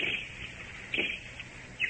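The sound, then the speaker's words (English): In a jungle, a person whistles an imitation of a bird call as a signal: a few short, high chirps spaced through the moment over a faint hiss of background noise, with no talking. “The bird call?”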